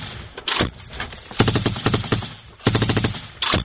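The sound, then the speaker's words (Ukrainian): Bursts of rapid automatic gunfire, sharp cracking shots fired in quick clusters with brief pauses between volleys, loud and with no voices. “Він повідомляє командуванню про те, що їх обстрілює снайпер і береться разом із солдатами вислідковувати противника.”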